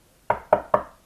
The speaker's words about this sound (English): There's another knock at the door.